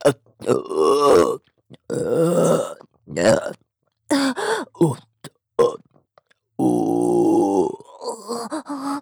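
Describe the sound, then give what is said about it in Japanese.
A series of loud burps, several long and drawn out, separated by short pauses and mixed with grunting, groaning vocal sounds. “また出る。ゲップが出ちゃう。”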